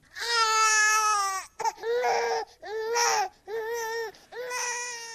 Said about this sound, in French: Voilà le premier cri que pousse un enfant à la naissance. Le cri qu'il pousse est un cri qui pleure, écrivez-vous. Souffle déjà endeuillé, chant déjà nostalgique.